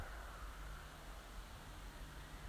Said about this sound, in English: The hum of that Pateley Bridge Ripon Road has now come back into earshot, as of the sheep in the fields.